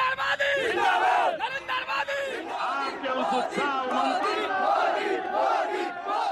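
A big crowd at a ballpark roars and cheers without letup, many voices shouting and whooping together in a dense, loud wall of sound that swells and dips slightly over about six seconds.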